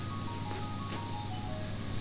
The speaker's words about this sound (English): My cell phone's ringing. My cell phone's ringing.